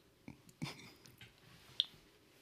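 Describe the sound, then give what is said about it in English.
A few sharp, irregular Geiger counter clicks, made as it picks up radiation, tick sporadically through a quiet background, about four short dry ticks at uneven intervals, fairly faint. “It clicks when you hear when it picks up a radiation molecule”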